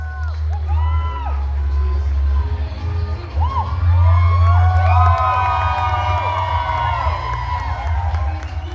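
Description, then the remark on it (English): An audience at a stage show cheers and hollers continuously, with many overlapping high whoops and rising and falling shouts over a steady low rumble of voices, loud throughout. “I just like to have a great time and have the audience hooting and hollering.”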